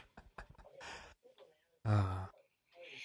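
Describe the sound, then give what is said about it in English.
A loud, sharp gasp, breathy with a voiced edge, rises suddenly after a few quieter breaths and short vocal sounds, then fades into a soft hiss. “Gasp.”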